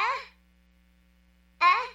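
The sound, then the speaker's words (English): Two short, breathy, gasping calls of a Tudlow, its mating call and cry for help, rich in overtones and fairly loud, separated by more than a second of near silence over a faint low hum. “Its characteristic gasping is both a mating call and a cry for help.”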